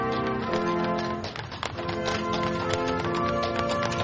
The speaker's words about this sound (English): A horse-drawn carriage brought the tree to the front door of the White House as members of a military band played Christmas music.